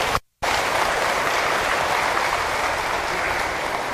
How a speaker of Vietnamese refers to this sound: thì quý vị hãy cho một tràng vỗ tay thật lớn để cam kết.